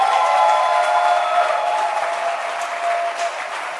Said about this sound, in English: Let your hand clap be loud.